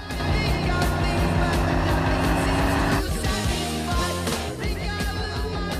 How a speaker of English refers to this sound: Benjamin drives recklessly through the streets.